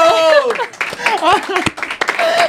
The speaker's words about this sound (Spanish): ¡Un aplauso!